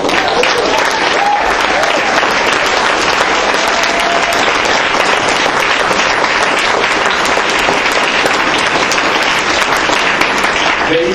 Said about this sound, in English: Let's give them a loud round of applause as I call them.